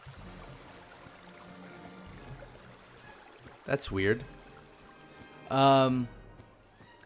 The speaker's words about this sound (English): do I hear water? Why is it? What is all this water sound? What's going on?